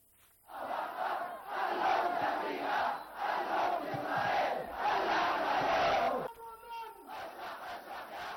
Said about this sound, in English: The Yemenis chanted slogans against U.S. and Israel over their atrocities in the besieged Palestinian territories.